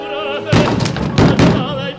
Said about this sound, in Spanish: Golpea la puerta con nerviosismo.